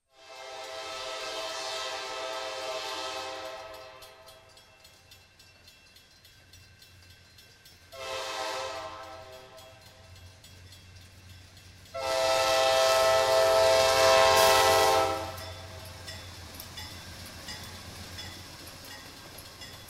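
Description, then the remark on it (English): Train engine 508 rumbles past on Lumber Street, sounding its horn in three loud, sustained harmonic blasts: a long one, a short one, then the loudest, over a steady low engine drone. “Those engines have a couple of notable things that really endear them to me and to some other people.”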